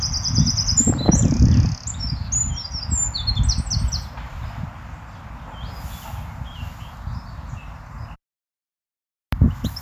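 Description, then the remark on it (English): Birdsong of rapid high chirps and trills, busiest in the first few seconds, over a steady low outdoor rumble, before a short pause near the end. “Here are some songs for you to listen out for.”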